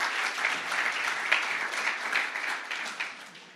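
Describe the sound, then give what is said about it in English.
An audience applauds a team together, a dense, steady wash of many hands clapping, holding for a few seconds before beginning to thin out at the end. “Can we give them a great big clap?”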